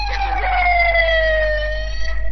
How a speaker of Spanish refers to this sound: Bueno, entró una ambulancia por ahí, alguno de los viejitos se mandan a la parte.